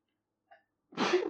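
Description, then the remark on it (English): A quick sharp inhale, then a single loud, explosive sneeze, broad and noisy, cutting off abruptly after a fraction of a second. “Bless you.”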